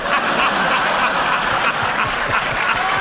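A crowd claps steadily, a dense, even wash of applause that holds at a constant, fairly loud level for about three seconds, with a few faint chuckles mixed in.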